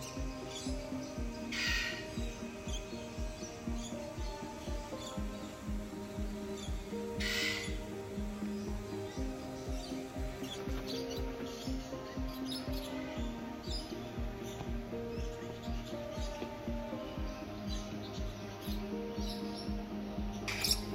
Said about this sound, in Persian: مثلا من به وجد اومدم، کمتر صحبت میخوام، شما صدای پرنده ها و آب بشنوید.